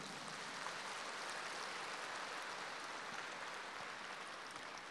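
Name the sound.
sparse audience applause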